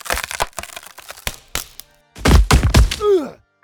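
A series of sharp wooden cracks and creaks, then a loud, heavy thud as a man who climbed onto a tavern table falls off it, ending with a short voice groan that slides downward.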